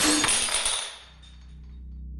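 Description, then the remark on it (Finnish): A plastic bag full of glass bottles is slammed onto a grocery store floor at night by a man stopped by a store clerk, one loud, bright shattering crash with clinking debris as glass shards spread, quickly dying away to a low steady hum. No one speaks. “Myyjä on pysäyttänyt kaupasta poistuvan tyypin, joka hermostuu ja iskee maahan muovipussin, joka on täynnä pulloja. Lasinsirut leviää lattialle”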